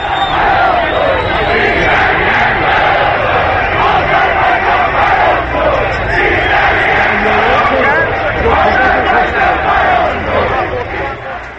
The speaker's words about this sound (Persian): بله، یه شعارهای ترکی هم توی تبریز میدادن.